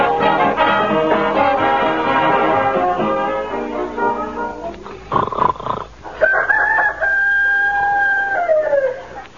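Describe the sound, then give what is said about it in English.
An imitation rooster crow, not a real rooster, in the Fibber and Molly radio show: a loud, long drawn-out call that drops in pitch at the end, following a few seconds of dense, busy clucking and calling with no talking. “I just heard a rooster crowing.”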